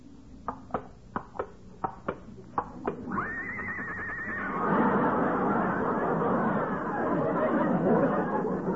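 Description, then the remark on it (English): A quick run of sharp, evenly spaced clicks leads into a high, wavering whinny from Lillian, a horse brought out as the model for an art class, then loud crowd chatter and laughter swell up and fill the rest. “Lillian is a horse.”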